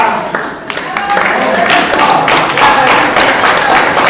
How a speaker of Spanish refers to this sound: Un aplauso para la hermana.